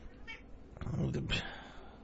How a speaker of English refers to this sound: You're making up for lost time, aren't you? Meow. Meow. Meow. Meow.